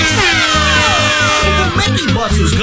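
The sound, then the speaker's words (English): The loud horn of the Mickey Bus honks a bouncy, repeating tune of short blaring notes, with swooping whistle-like tones sliding above it. “Hey, did you hear that? Is it a bird? Is it a plane? No, it's the Mickey Bus!”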